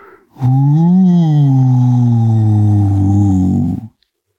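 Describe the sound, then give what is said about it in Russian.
A person imitates a wolf howling menacingly: one long, low, droning howl that swells briefly and then sags slowly in pitch, loud, lasting a few seconds before cutting off. “Последнее слово будет за мной, проворчал волк и вдруг завыл страшным голосом.”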